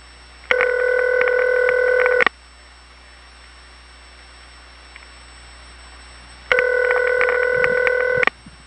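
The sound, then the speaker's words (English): Two long telephone ringback tones on a crossbar 5 test line, each about two seconds, separated by a quiet gap with faint line hiss; the rings sound clear and steady. “You'll notice that the first ring sounds rattly, and the remaining rings just sound very clear, as if there were no equipment on the line.”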